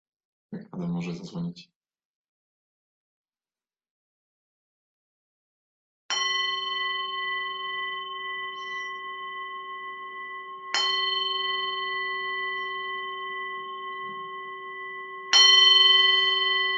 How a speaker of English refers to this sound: Because a bell through Zoom isn't so delightful, I invite you to ring the bell there.